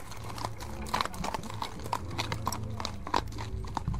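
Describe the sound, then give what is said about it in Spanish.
Horse hooves clip-clop in a steady, uneven rhythm, with sharp knocks standing out over a low rumbling background, as a rider mounts the horse shortly after midnight. “Belgrano montó en su caballo.”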